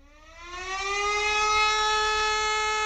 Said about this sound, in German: Oh, dieser Ton, der kommt dir bestimmt auch bekannt vor, oder? Feueralarm. Aber wie verhält man sich bei einem Feueralarm in der Schule richtig?